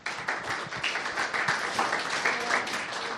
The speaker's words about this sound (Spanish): Un aplaudiment per a ella.